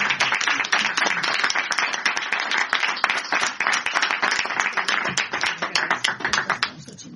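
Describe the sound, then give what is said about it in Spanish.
An audience breaks into sustained applause, many hands clapping densely and fairly loud for several seconds before thinning into scattered claps at the end. “Sí, pues le damos un aplauso a nuestro.”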